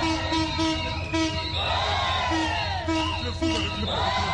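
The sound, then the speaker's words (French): A crowd of market vendors near the central station of Brazzaville cheers and claps for an arriving train, whoops and excited shouts rising over a steady, dense roar of voices. “Ici, toutes les vendeuses ont applaudi l'arrivée du train.”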